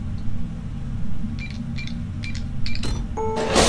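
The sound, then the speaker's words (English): A printer dispensing medication, such as pain meds and cough suppressant, whirs into action over a steady low hum, giving a quick series of short electronic chirps and clicks before ending in bright, hissing mechanical bursts. “I have pain meds, cough suppressant, etc. waiting for you in the printer.”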